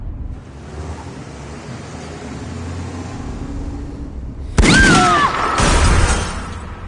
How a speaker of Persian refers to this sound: کی به همون شلیک کرد؟ پلیسا فکر میکنن که هدف تیرانداز اشخاص دیگه ای بودن.